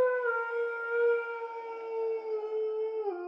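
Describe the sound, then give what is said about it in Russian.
A long, drawn-out howl in an underground corridor holds one steady, mournful pitch for about three seconds, dipping slightly at the very end. It sounds clear, with no voices or other sounds. “По моим подсчетам, оставалось пройти 20 метров, не больше, когда тишину подземного коридора разорвал протяжный вой.”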